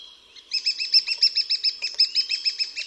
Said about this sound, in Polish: Piosenka dzięciołka to seria 8 do 15 piskliwych sylab. Liczba sylab zależna jest od podniecenia osobnika. Jest ich tym więcej, im bardziej jest niespokojna sytuacja.